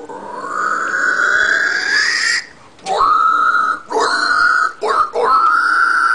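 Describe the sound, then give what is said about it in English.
A person imitates a pig squeal: a loud, shrill, strained cry that rises over a couple of seconds, followed by several shorter squealing bursts with brief breaks between them. “Just so you don't get confused, that was a pig squeal, not a pterodactyl.”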